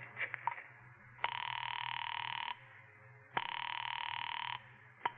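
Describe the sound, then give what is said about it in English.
After a number is dialed, a telephone rings twice on the other end of the line, each long buzzing ring about a second long with a pause between, heard faintly through the receiver over a low hum. “found the phone. I dialed Bradshaw 7711 and waited.”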